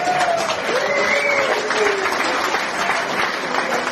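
Steady applause from an audience at a championship, thanking the event's helpers, fills the whole stretch, dense and sustained, with a few brief whistles or cheers rising above the clapping.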